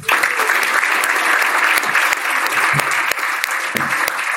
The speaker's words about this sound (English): And please give an equal level of applause for former Ireland player Rory Best.